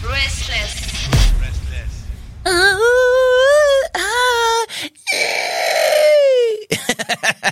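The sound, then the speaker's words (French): A voice imitates sirens: loud, sustained wails whose pitch slides up and down in long wavering glides, broken by brief pauses and ending in short choppy bursts, after a muffled rumbling start. “Non, parce que en vrai, là, ce que je voulais faire, c'était les sirènes.”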